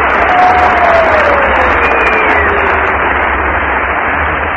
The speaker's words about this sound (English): What does the applause meter tell us